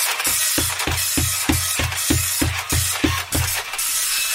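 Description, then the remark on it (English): An old-fashioned dot matrix printer prints steadily, a harsh, raspy buzz broken by regular clunks about three times a second as the print head moves line by line. No one speaks. “Still printing.”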